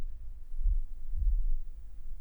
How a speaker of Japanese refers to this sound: 心臓の音が伝わりやすいのかも